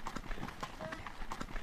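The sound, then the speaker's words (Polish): Horses' hooves clip-clop in a steady, slightly uneven rhythm of sharp knocking beats, fairly loud, with murmuring voices underneath. “Konie, nasze konie.”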